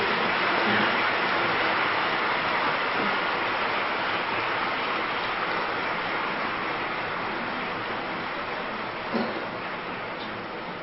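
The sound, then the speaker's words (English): A meeting audience claps for itself steadily for around ten seconds, a dense, even wash of many hands that holds its level and tapers off slightly toward the end, with no voices over it. “Yes, you may clap for yourself.”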